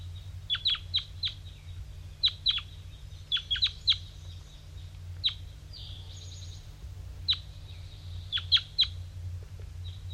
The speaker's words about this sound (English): Other wild birds are flying in.